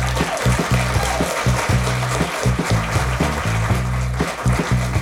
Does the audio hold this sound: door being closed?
no